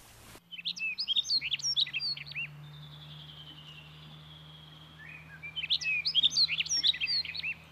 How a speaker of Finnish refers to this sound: Tämän viikon luontoääni lähtee Pohjan sirkusta.